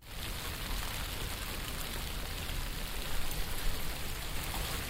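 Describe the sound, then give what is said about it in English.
Steady rain falls continuously, a dense, even hiss of drops pattering on a surface, moderately loud, with no voices or other sounds breaking through. “It started to rain.”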